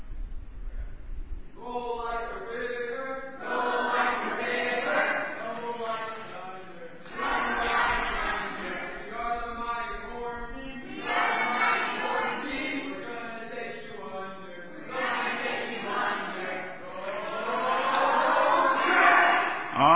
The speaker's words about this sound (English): For team cheers, let's get the Orange Team up here. Come on, Orange Team, let's get you a cheer. Ready? Get your team cheering. Here we go. Let's hear it, Orange.